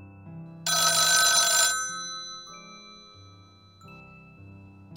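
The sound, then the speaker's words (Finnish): A telephone rings on a Yle X radio show with one loud, bright bell burst lasting about a second, then its tones fade while soft musical notes carry on beneath. No one speaks. “Kuka soittaa?”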